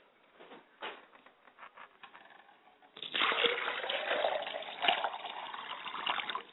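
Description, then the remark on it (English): Water is poured onto the ground as a libation, a steady, continuous splashing rush that starts abruptly halfway through after a few seconds of faint scattered drips and rustles. “And I allow the water to pour to the ground.”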